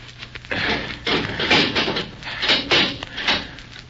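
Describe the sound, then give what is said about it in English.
A door is handled: a series of scraping, rattling clunks as it is unlocked and pushed open, with no voices. “Here, hold him while I unlock the door,”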